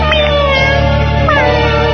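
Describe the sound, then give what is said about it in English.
A kitten meows in drawn-out, wavering, loud cries over a steady low hum in the background. “We'll take that kitten, you wretch.”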